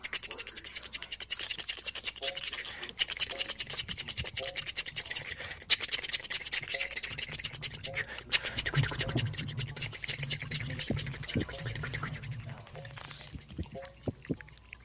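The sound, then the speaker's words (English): An imitation of 10,000 tiny termite feet scratching on wood, as worker termites breaking through into a bedroom wall: a dense, continuous, hissy scratching and rustling that holds steady for about fifteen seconds, with faint low rumbles beneath and no speech. “Make the sound of 10,000 tiny feet on wood.”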